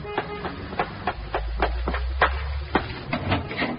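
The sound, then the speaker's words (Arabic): Quick, hurried footsteps thud in a steady rapid rhythm, about a dozen impacts as someone runs down the stairs to join a friend waiting to watch a football match at a café, with a low rumble underneath and no talking. “حاضر حاضر، اهو نازل لك جري.”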